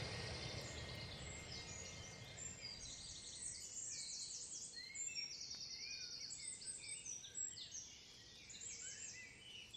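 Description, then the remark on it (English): Birdsong at dawn as the bird song is starting: several birds chirp and trill in overlapping high, rapid phrases over a low outdoor rumble with no one speaking. “Okay, it's dawn and we've just come out to hear the bird song starting.”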